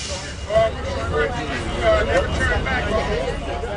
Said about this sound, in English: as the bus pulls away from the state capitol and heads out on U.S. Highway 49.